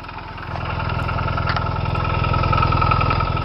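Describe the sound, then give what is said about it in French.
A Ligier Formula 1 racing car engine runs with a steady, low pulsing throb, holding an even pitch and growing slightly louder over a few seconds, with no voices. “La Formule 1, mais ça, c'est le passé parce que aujourd'hui, votre marque, eh bien, c'est plutôt cela.”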